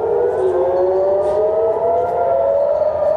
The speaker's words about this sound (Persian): دود و آتش و صداهای پیاپی انفجار و آژیر خطر در منطقه مرزی میان اسرائیل و لبنان.